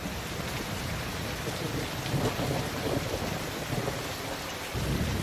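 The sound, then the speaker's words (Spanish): Steady rain pours down with a dense, hissing wash, joined by low rumbling that swells and fades like thunder. It is constant and fairly loud, with no voices. “La Roma donde la lluvia, sí, la lluvia es un síntoma de lo que puede ser una ciudad.”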